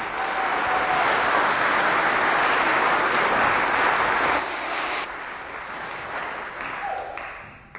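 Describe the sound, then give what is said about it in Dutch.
A church audience applauds in congratulation at the end of a service, a dense wash of many hands clapping that holds strong for about four seconds, then thins and softens as the clapping tapers off. “Gefeliciteerd en nogmaals een applaus.”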